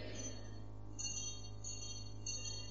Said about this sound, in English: you are just ringing that bell.